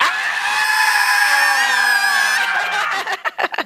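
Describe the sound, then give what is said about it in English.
A large standing audience with arms raised in the air screams loudly all at once on a count of three, a dense sustained roar of many voices lasting a few seconds before breaking up into scattered shouts and whoops. “And then I want you to scream as loud as possible on three.”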